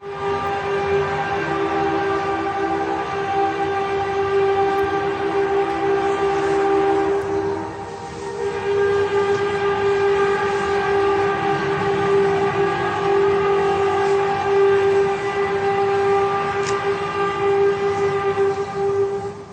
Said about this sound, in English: That one from Indonesia almost sounded like a train, sort of the same sound that they say to look out for when a tornado is coming. Yeah, yes. But like probably about halfway through, there's a slightly different tone change, like key change